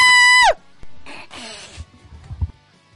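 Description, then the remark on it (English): A person imitates a playful scream: a loud, shrill, sustained squeal lasting half a second that drops off sharply, followed by breathy, raspy vocal noises and soft low rumbles. “So if we were to imagine him screaming, what would it sound like?”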